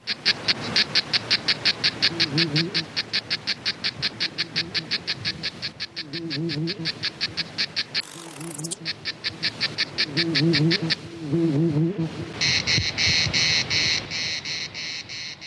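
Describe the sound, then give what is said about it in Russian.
Dense, rapid chirring of Mediterranean insects pulses steadily at a high pitch, shifting to a brighter, more continuous buzz near the end, with a low warbling call underneath and no talking. “Вот уж где Фрэнк дал волю своим трескучим соседям.”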